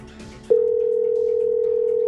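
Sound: telephone ringing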